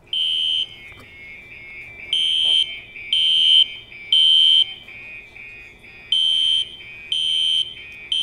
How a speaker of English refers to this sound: I know most of us probably know what a fire alarm sounds like, but I'm still going to play it for you all the same.